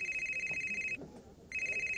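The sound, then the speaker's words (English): A telephone rings with a bright, trilling electronic tone, breaks off for about half a second, then starts ringing again, loud and steady against a faint background hum. “Aren't you going to answer it?”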